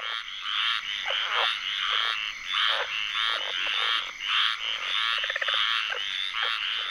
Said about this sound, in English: Lang Elliott and Ted Mack captured this tree frog serenade in Apalachicola, Florida, for their … CD.